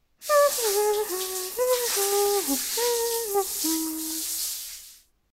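A steady hiss of shower spray runs for about five seconds as someone has a shower, with a short stepping melody, like humming or singing, carried over the rushing water before it cuts off.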